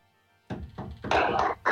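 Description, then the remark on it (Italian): A few heavy, dull knocks thud against a door after a brief quiet moment, coming in an uneven series of loud raps. “Bussano qui intanto alla porta.”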